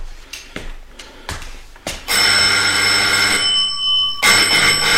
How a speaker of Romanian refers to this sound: Uitați, aici e o sonerie. Dacă aveți nevoie de mine, sunați.